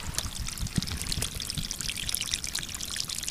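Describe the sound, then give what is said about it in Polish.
Water trickles and splashes steadily, a continuous bubbling and pattering flow with no pauses, leaking out from under sandbags and plastic sheeting that firefighters placed on a breached flood embankment. No voices are heard. “To woda, która cieknie spod tych worków.”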